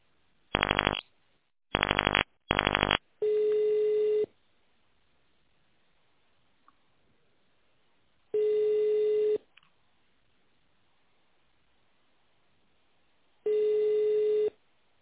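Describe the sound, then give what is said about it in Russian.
Three quick bursts of dialing tones, then a steady telephone ringback tone sounds in long pulses separated by silent gaps, repeating three times with no talking, while a caller waits to be connected to the assistant of the head of the company Eurosib Energoinzhiniring. “Для соединения с сотрудниками организации наберите добавочный номер или дождитесь ответа помощника руководителя.”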